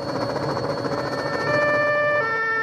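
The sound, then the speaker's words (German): Police sirens wail over a steady wash of city traffic noise in Manhattan on a grey, foggy Sunday morning, their high tones growing stronger and steadier in the second half, with no voices present. “An diesem Sonntagmorgen hört man in Manhattan ständig Polizeisirenen heulen.”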